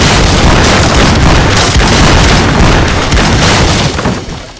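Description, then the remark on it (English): A loud, rapid barrage of pistol shots fired by several men at a closed door into a room, cracks piling on top of one another into a dense, booming roar that holds steady for several seconds before tapering off at the end. “Inside the room, they saw evidence of the barrage they had just released.”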